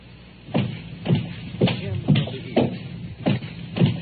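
About seven footsteps fall in a steady walking rhythm, each a soft, dull thud with a slight scuff, moderately loud. No one speaks.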